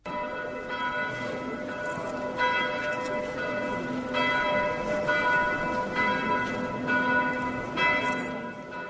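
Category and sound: signal or alarm, church bells ringing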